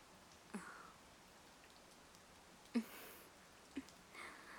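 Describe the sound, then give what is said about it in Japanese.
Soft, steady rain hisses in the background, with a few louder drips or taps landing now and then. It sounds quiet, and no one speaks. “そういえばあの時も雨降ってたな。”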